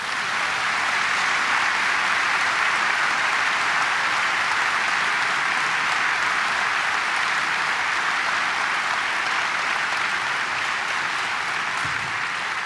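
An audience breaks into loud, sustained applause when the name Jaime Torres is said, a dense steady wash of clapping that holds at full strength for the whole stretch without any talking.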